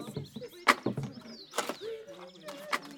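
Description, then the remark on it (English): Faint, high bird chirps and short whistling sweeps come through between sharp clattering knocks and thuds, with a few brief tonal calls toward the end. “I don't think they have birds in hell, dearest.”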